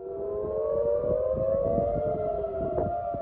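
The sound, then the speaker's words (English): Air raid sirens wail steadily across central Tel Aviv, Israel, after Hezbollah launched rockets from Lebanon; several long overlapping tones sustained at a constant loud level, with a rumble of city noise beneath and no voices. “Sirens rang out across central Tel Aviv less than 2 hours after Republican Donald Trump gave a speech claiming victory”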